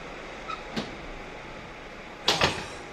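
A few soft metallic clicks, like a key or latch working, followed by a sharper double clack of the door of a shabby inn in Picardy, France, being unlocked and pulled open, with no talking.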